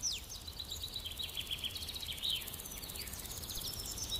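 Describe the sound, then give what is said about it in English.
A small bird chirps rapidly and repeatedly in quick, high-pitched tweets, fairly soft, over a faint steady outdoor hiss with a thin insect-like buzz behind it. “And what a cute little bird.”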